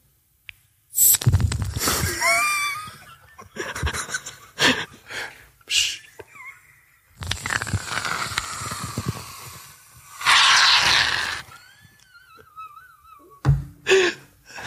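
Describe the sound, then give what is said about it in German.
A voice imitates a waterfall with a series of breathy, rushing hisses of uneven length, some long and steady, others short bursts, with faint whistly tones mixed in and no words spoken. “Das war der Wasserfall.”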